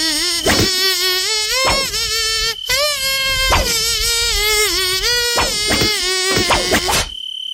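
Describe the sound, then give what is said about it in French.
A nasal, whining buzz, voiced in imitation of a tiger mosquito, hums a bouncing melody of rising and falling notes. It is loud, with brief breaks between phrases. “Alors nous, on fait dans le luxe ce matin parce qu'on a carrément un moustique tigre avec nous.”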